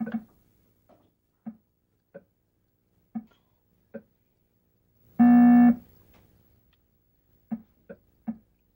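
Raw electronic beeps from the Atari Pong video game: short, buzzy blips bounce back and forth at an uneven pace, broken once by a longer, louder tone before the blips resume.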